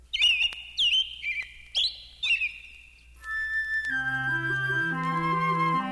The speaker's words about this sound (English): A baby peeps when the mother bird is late.